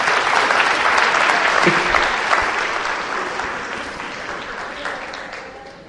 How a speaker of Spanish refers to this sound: O sea que le quedan por lo menos 97 años de congresos carismáticos a ese niño. 97, a ver, un aplauso para el niño, por favor.